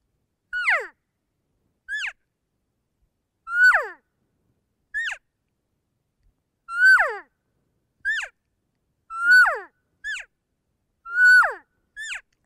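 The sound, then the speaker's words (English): An imitated cow call alternating with a calf call, ten nasal, whistly mews in all, each sliding downward in pitch. The longer, fuller cow calls take turns with shorter, higher calf calls. No talking. “I'll do a cow call followed by a calf call.”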